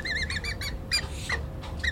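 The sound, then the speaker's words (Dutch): Young birds call in a quick run of five or six high, squeaky, piping notes, followed by a few scattered, drawn-out squeals over a steady low rumble. “Het zijn dus de jonkies die we horen, hè?”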